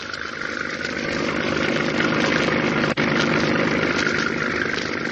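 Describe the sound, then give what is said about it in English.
A patrol boat engine runs steadily on the water at night, a dense continuous drone with a throbbing low rumble and a brief dropout near the middle, with no voices. “We shove off, and an hour later, we're nearing the spot.”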